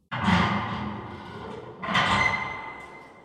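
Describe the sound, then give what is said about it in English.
A heavy cellar door is unlocked and scrapes open in two loud, drawn-out pushes, the second carrying a thin creaking squeal as it swings wide, with no voices. “The door of the cellar flew open and footsteps began drawing close.”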